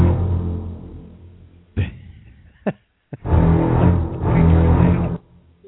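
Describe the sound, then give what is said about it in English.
A thunder sound effect played from an iPad: a deep rolling rumble fades out, a few sharp cracks snap through, then a loud, sustained roar of thunder builds and cuts off abruptly. “I may be running this show off my iPad, but I still got the sound effect, so leave me alone.”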